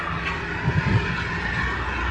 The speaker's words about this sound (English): frolicking with the trucks again, and the wind, and the traffic, and the trees